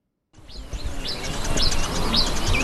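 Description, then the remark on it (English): Birds chirp and whistle repeatedly over a steady insect hum and soft outdoor background, with no voices, at a quiet gold mining site at the foot of the Atewa Forest Reserve in the eastern region of Ghana. “Only birds and insects break the silence at a gold mining site in the eastern region of Ghana, at the foot of the Atewa Forest Reserve.”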